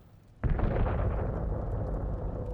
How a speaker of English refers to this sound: I'm standing by this fax machine, trying to send some documents out to our office in Philadelphia, when I hear this incredible explosion.